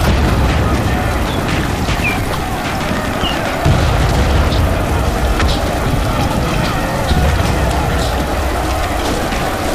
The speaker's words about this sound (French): Il y a la pluie, il y a le vent, il y a la boue, il y a tout ce que le soldat vivait, et cet enfer permanent, d'explosions, soit présentes, parce qu'ils étaient sous le feu, soit très distantes, mais c'est permanent.